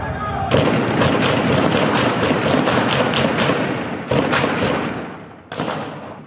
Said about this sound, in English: These protests have spread across every province as videos document gunfire in the streets of Tehran.